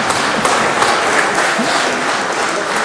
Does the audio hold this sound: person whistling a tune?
no